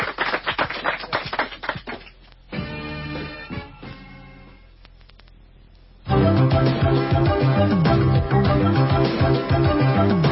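A short burst of applause with many hands clapping for a newly elected student council president, fading after a couple of seconds as instrumental music takes over and swells louder.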